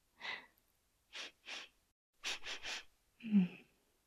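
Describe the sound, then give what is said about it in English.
Short, sharp sniffs in small clusters: a single one, then a pair, then three in quick succession, followed by a breathy exhale with a faint low hum. No one speaks. “You find it endearing when I sniff things?”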